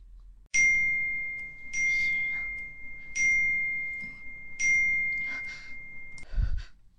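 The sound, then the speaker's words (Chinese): A phone's message notification for a spam text message chimes four times in a steady, evenly spaced pattern, bright, each ding ringing briefly before the next, with a short rustle at the end. “没事的，宝宝，那个骚扰短信”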